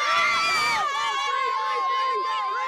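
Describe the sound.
A crowd of excited schoolchildren shouting and cheering together outdoors in a school parking lot during a balloon launch, many high voices overlapping, loudest at first and then settling into a busy, steady babble.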